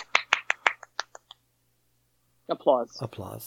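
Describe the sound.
A brief, sparse burst of applause: roughly eight sharp claps that thin out and fade within a second, then a pause before someone starts talking.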